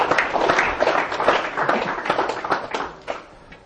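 A crowd applauds the speakers steadily, many hands clapping in a dense, crackling wash that holds fairly loud throughout and begins to thin toward the end.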